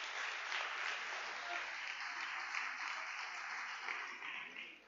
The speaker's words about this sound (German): Wir können Gott einen Applaus geben für diese wunderbare Gnade auch.